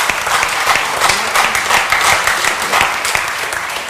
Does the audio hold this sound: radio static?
no